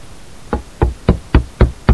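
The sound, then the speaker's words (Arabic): Six firm knocks on the wooden door of a doctor's upper-floor residence in a rural T-shaped building, evenly spaced at a steady, deliberate pace, fairly loud, with no voices around them. “ومن ثم صعدت في السلم المتحطم إلى الطابق العلوي حيث سكن الطبيب، وقرأت الباب في كياسة.”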